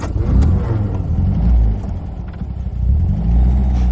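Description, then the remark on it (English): An older-model car engine drones steadily from inside the vehicle, a low rumbling hum that swells and eases with gear changes and acceleration over a few seconds, with no one speaking. “Yeah, I can tell that it's an older model this time.”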